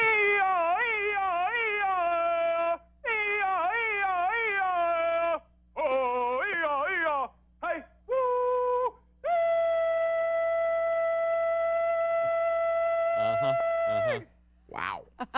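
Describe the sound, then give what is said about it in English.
At a hog calling contest, a single voice hollers in long, piercing, wavering calls, swooping up and down in pitch with short breaks, ending in one sustained high note and a few sharp yelps. “Here, only lasts for about 15 seconds, but here's some hollering.”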